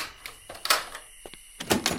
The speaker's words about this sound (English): So I used the key on the door and heard the lock grind as it unlatched from the hinges.